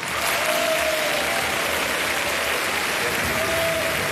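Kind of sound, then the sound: crowd, applause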